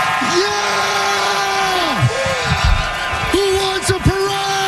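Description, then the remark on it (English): Dodgers manager Dave Roberts, celebrating the Dodgers' World Series win, lets out a loud, sustained primal scream, holding a raw pitch before it drops off, then bellowing again over a steady roar of crowd noise. “I just love the primal scream that this guy's got.”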